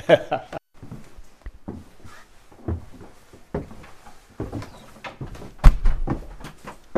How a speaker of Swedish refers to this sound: Du stängde dörren.